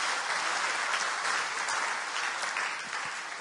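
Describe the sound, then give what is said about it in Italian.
An audience at a church service applauding the Lord steadily, a dense wash of many hands clapping at once that holds an even level for several seconds with no voices standing out. “Facciamo un applauso al Signore.”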